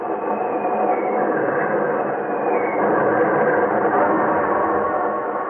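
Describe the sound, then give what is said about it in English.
A train speeds along the tracks while being attacked by Japanese bombers, with a steady, dense rumble and a clattering rush of wheels, loud and continuous throughout, with a faint high whine riding above the roar. “If only the train does not jump the track.”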